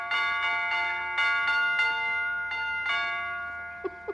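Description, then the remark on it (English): A broken doorbell rings for somebody at the door, chiming out a short tune that sounds like Jingle Bells: about eight clear ringing bell notes struck in an uneven melodic rhythm, each one sustaining and overlapping the next, fairly loud with no voices. “Well, it's a little early, but I could swear that was Jingle Bells. That was somebody at the door.”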